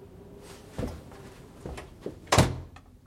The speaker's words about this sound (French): J'ai refermé la porte dans un geste sec.